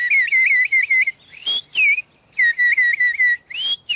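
A person whistles a signal meaning it is safe to go ahead with the work: bursts of quick, warbling high notes repeated in a steady rhythm, broken by a few rising swoops and short pauses, with no talking.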